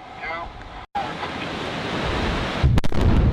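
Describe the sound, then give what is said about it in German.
A roaring, rumbling rush of noise builds steadily, then several sharp blasts crack through it in quick succession near the end, as explosions bring down dams on the Elwha River, USA, at the start of their removal in 2011. “Mit einem großen Knall. Oder besser gesagt, gleich mehrere Explosionen.”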